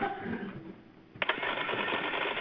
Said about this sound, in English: Can you mute your phones? We're hearing a lot of typing or something. Sounds like someone's canceling checks.